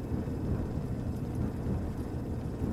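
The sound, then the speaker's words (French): Low, rolling thunder rumbles steadily for a few seconds, a deep continuous growl without sharp cracks or pauses, and no voices over it. “À cet instant, un tonnerre gronde d'un ton grave.”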